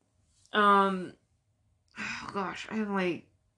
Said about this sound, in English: Oh, gosh, I gotta yawn again. This sucks.